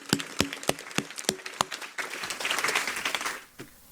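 Audience applause: a few sharp, evenly spaced claps build into a dense, loud burst of clapping that fades out after a few seconds.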